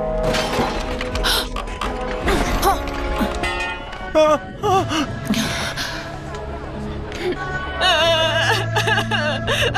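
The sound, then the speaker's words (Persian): A person cries and whimpers in wavering, breathy sobs with a few gasps, set against a dense, busy background of music and other sounds. “گریه نکن عزیزم، عیب نداره.”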